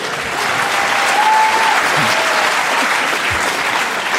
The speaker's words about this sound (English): You know where the audience sympathies lie. You're going to get applauded every time you say anything.